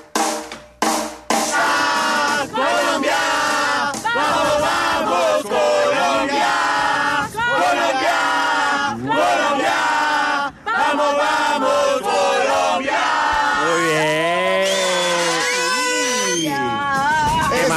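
A street crowd at Centro Comercial Titán Plaza in Bogotá, during a Radio Activa street broadcast, cheering and shouting loudly and continuously. Many voices overlap in excited, rising yells with no individual words standing out.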